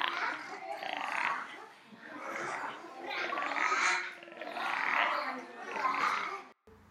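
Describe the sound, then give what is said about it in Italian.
A voice imitates a frog's croak, repeating a raspy, throaty call about five times in a steady rhythm, loud, then stopping abruptly. “Il ranocchio canta sì.”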